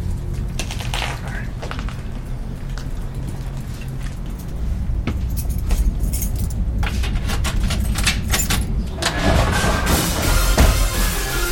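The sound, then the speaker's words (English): Keys jangle and clink in irregular, bright metallic bursts over a low, steady rumble, growing busier and louder toward the end as a key is worked into the lock to open a house door. “Hey, do you have your key?”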